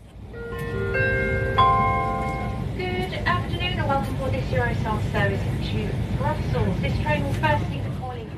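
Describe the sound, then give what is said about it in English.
A steady low rumble of a moving train carriage on a train to Antwerp, with a short ringing chime near the start, then someone talks over the constant background drone. “So here I am on the train to Antwerp, very excited actually”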